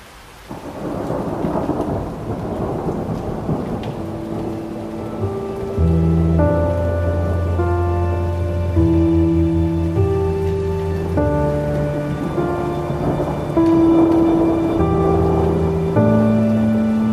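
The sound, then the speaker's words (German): Rain hisses steadily with a deep, rolling thunder rumble at the start of an approaching thunderstorm, watched from a covered hotel terrace; after a few seconds, sustained music chords swell in and continue over the storm sounds. “Ich hingegen setze mich auf die überdachte Terrasse, beobachte das heraufziehende Gewitter und bin mit meinen Gedanken beim morgigen Tag.”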